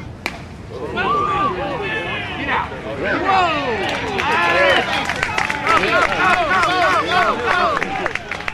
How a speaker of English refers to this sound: This crowd is cheering for the vintage team from Nashville called the Nashville Maroons. The Maroons are playing against another group from the nearby town of Franklin.